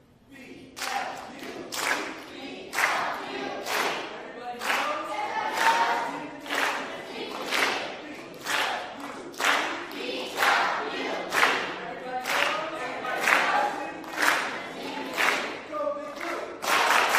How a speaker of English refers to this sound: come on up and give us a blue team cheer.